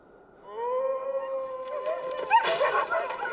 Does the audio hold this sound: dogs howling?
yes